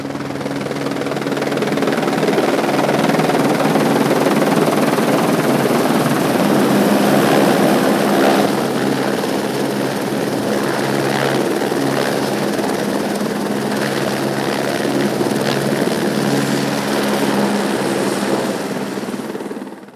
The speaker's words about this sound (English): We exit the helicopter at the drop zone and form a defensive circle as the chopper hovers back into the night sky in a whirlwind of noise.